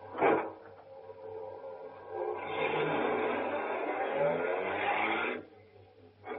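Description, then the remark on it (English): A car drives by, a broad steady engine roar swelling for about three seconds before cutting off abruptly, over a faint low hum. No one speaks. “We'll take our car.”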